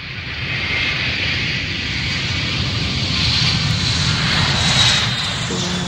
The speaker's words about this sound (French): Et on entend que la phase de décollage, lorsque le pilote pousse à fond la manette des gaz, eh bien, c'est celle où les réacteurs brûlent le plus de kérosène par minute.